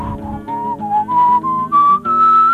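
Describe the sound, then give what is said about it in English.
A person whistles a short, clear melody of sustained notes that step gradually upward in pitch, loud, with brief gaps between phrases and no talking. “You impudent little daughter, and what makes you whistle now?”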